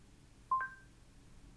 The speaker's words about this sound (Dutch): I'm ringing your phone. Zo. En dan laat hij de telefoon rinkelen.